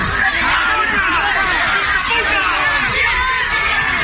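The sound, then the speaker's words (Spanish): A loud, dense crowd of about fifty activists barricaded inside a building's doorway shouts and clamors continuously during a family's eviction, crying 'ningún vecino fuera del barrio' as police try to get in, overlapping yells forming a steady roar of protest noise. “Una cincuentena de activistas se han atrincherado además en el interior del portal con gritos de ningún vecino fuera del barrio mientras los Mossos intentaban acceder.”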